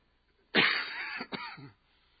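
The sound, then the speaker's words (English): A harsh cough burst lasting about a second, with a second rougher hack right after it, loud and alone against near silence; a cough the speaker has had for two weeks, without fever or sore throat. “But what I've just did is what I've done for 2 weeks now. Just cough.”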